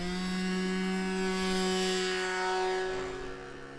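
A small engine drones steadily with a strong buzzing tone and rich harmonics, its pitch holding fairly even before fading slightly at the end: an aerobatic funfly sport model airplane flying outdoors in winter in Finland.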